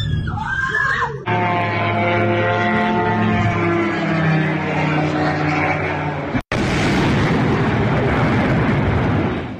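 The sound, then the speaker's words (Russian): A loud, steady droning buzz with layered tones holds for several seconds, then a sudden break gives way to a dense, roaring blast of noise from a drone strike explosion on residential buildings in Ramenskoye, Moscow region, on the night of 10 September, lingering to the end. “Вот так в ночь на 10 сентября дроны били по жилым домам в подмосковном Раменском.”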